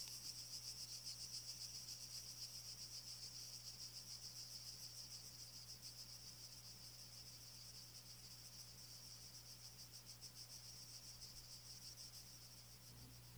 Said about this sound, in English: Cicadas abruptly stop their whirring, and the atmosphere becomes completely calm.